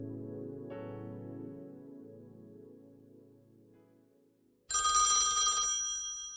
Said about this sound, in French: À un moment donné, le téléphone sonne en pleine nuit, ou à peu près,